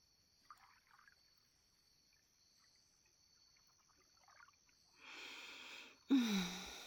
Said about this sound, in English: What was that? No, I didn't hear you over the water. What'd you say?